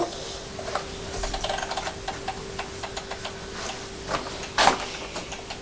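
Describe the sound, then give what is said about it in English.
A small toy racing car rolls backwards across a hard floor, played with by someone lying on the floor, its little mechanism giving off a rapid, uneven run of light ratcheting clicks, with one sharper clack near the end. “You're lying on the floor playing with your racing car. Going backwards.”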